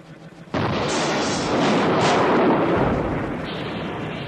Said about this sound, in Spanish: Tembló lo alto de la iglesia. De pronto la pared se desgarró a todo lo ancho. En la pared blanca empezó a abrirse una grieta terrible, negra en el fondo. La parte superior de la iglesia con su cúpula se inclinó y se desplomó.